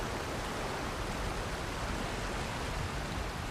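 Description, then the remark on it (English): Flowing stream water gives a steady, unbroken hiss and rush, soft and even throughout, with no voices or other distinct sounds. “Naru peers at the stream.”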